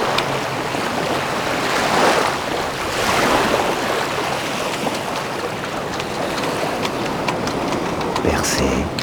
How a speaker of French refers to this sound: Avec cette évocation du grand large. De la forte houle. Que je vous laisse.